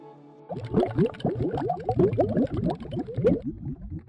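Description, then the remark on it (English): A dense stream of bubbling water sound effects, played from a phone into Pro Tools to give a song a water-themed, bathtub-like feel, with rapid overlapping bloops and gurgles rising in pitch, bursting in after a brief low hum and continuing steadily at moderate loudness. “I literally just found like some bubble sounds, and I had my phone plugged up to the Pro Tools, and I would just play these bubble sounds at like random”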